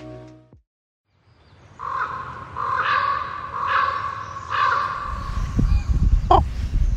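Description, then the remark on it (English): A raven croaks four times in a steady series in Sitka, Alaska, the hoarse, resonant calls clear, followed by low rumbling background noise as the calls end. “Every time I hear the croak of a raven, it stops me in my tracks.”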